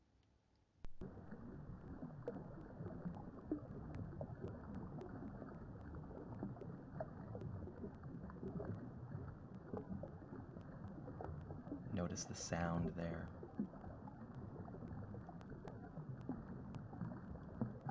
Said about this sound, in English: Now, please imagine sitting next to a stream.